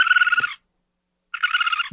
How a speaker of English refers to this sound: Birds? No, it does sound like a bird. So it's not so much as like I'm scared as I just think they're absolutely repulsive, but that's a possum.